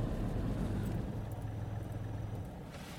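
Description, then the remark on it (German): A car engine idles at a traffic light with a steady low hum, then cuts out near the end, leaving only a quieter rumble of road or cabin noise. No one speaks. “Jetzt geht er einfach aus.”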